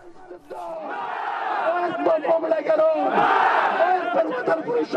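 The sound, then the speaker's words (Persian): A crowd of protesters in Faryab province, northern Afghanistan, chants anti-government slogans demanding the release of Nizamuddin Qaisari, in loud, rhythmic unison, voices swelling in repeated surges with shouting layered over the steady roar. “تظاهرات در ولایت فاریاب در شمال افغانستان پس از آن به خشونت گرایید که اعتراض کنندگان با شعارهای ضد حکومتی خواستار رهایی نظام الدین قیصاری شده و در مقابل مقام ولایت و ریاست امنیت ملی این ولایت سنگ پرتاب کردند و سپس ساختمان این ولایت را با آتش کشیدند.”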